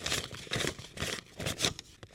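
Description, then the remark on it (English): Paper dollar bills rustle and crinkle in a steady series of crisp, papery bursts, about five in quick succession, fairly quiet, with no voices. “And then paper dollar bills like the ones we use today.”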